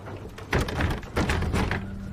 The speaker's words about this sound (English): She stands up and grabs the door handle.